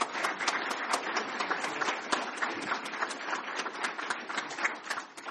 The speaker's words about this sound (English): Let's give our keynote speakers another round of applause, please.